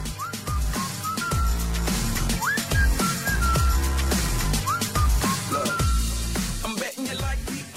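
A person whistles a bright, sliding melody in short phrases over a steady, loud backing beat with deep bass, with no talking.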